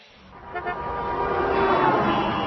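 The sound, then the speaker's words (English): Car horns blare amid heavy highway traffic, several sustained tones overlapping and swelling louder over a steady rumble of engines, with no one talking. “Hey, look, hon, the highway is crazy.”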